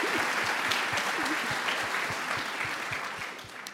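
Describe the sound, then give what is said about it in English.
An audience applauds steadily in thanks to reliable partners, the NOC, a dense wash of many hands clapping at once, fairly loud throughout and fading slightly toward the end, with a few voices faintly mixed in. “let's give a big thanks to our reliable partners. The NOC. Applause.”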